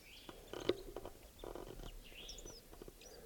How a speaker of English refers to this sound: I'm pointed at another bird up in the tree here. Doing a soft song. It's probably a male. I don't see the bird though.